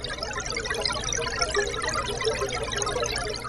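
A steady, dense wash of tiny bubbling blips, a completely man-made sound created by scientists to imitate gurgling water, running continuously at an even level with no voices.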